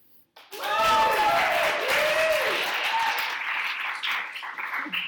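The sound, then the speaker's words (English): A crowd bursts into loud, sustained applause with whooping cheers rising and falling over it, the clapping staying dense and steady for several seconds. The crowd is cheering because a speaker pronounced a name correctly. “And people are cheering because he pronounced the name correctly.”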